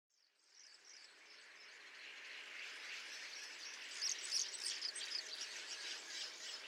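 Birds singing outdoors during lockdown in a soft, continuous chorus, with a few brighter chirps rising out of it partway through; quiet, no voices.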